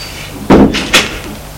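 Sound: door being shut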